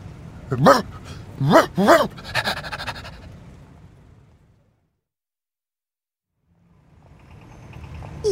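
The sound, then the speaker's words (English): A dog barks three times in quick succession, loud, followed by a few seconds of breathy panting that fades into silence before faint background noise returns. “Hello, dog!”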